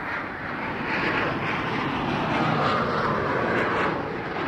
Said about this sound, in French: Après 5h30 de vol sans histoire, le Boeing 747 d'Air France, baptisé l'avion du retour au pays